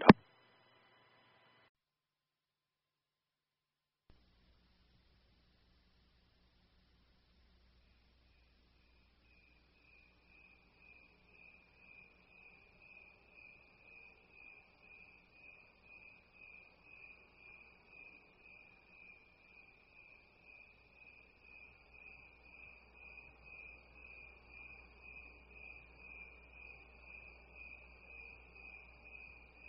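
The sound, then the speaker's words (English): Crickets chirp in a steady, high-pitched pulsing trill that begins after a quiet stretch and slowly grows louder, over a low background hum, with no one speaking. “If my moderator is there, if you can go ahead and play the crickets for us, that would be really, really great.”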